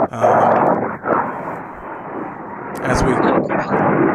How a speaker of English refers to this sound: Hold on, let me move back inside because it seems like it's getting loud out here with the airplanes going through.